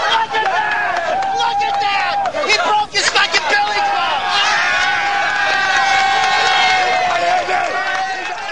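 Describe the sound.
A large crowd of protesters facing police at barricades shouts and cheers in a loud, continuous roar, many voices overlapping with excited yells and bursts of laughter as an officer's billy club splinters on a barricade, dense throughout.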